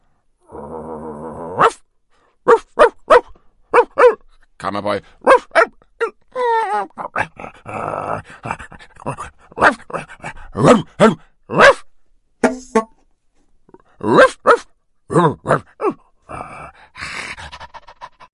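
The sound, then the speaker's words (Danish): A person imitates a dog for about eighteen seconds, delivering a foreword in 'dog language' as a rapid series of short barks, yips and panting sounds in irregular bursts, loud. “Skulle det forholde sig sådan, at nogle af vores firbindede venner lytter med, ja, så bringer jeg her lige forordet på hundesprog.”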